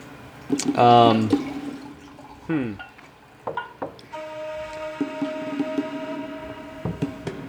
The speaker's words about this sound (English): While Kezra pours a glass of wine. Kezra's in the cabin just kind of pouring.